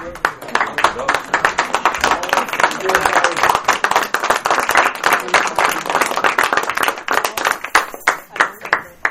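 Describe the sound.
At a meeting, a group bursts into a sustained standing round of applause for someone's service: a dense, steady patter of many hands clapping at once that holds for about nine seconds before thinning into a few last claps, with faint voices mixed in.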